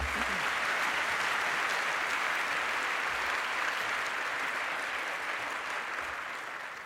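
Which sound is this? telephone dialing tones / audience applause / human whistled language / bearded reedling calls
audience applause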